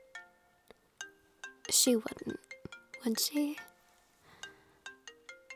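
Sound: mobile phone ringtone ringing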